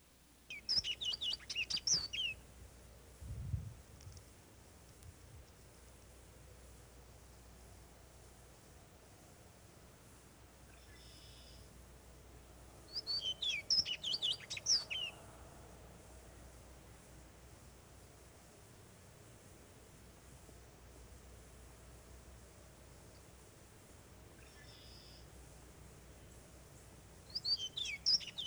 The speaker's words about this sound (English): The little orchard oriole, also in the blackbird group, nests in the northern third of the state. Its song is a melodious and extended complex containing a variety of notes.